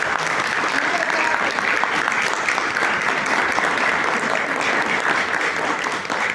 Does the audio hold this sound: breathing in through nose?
no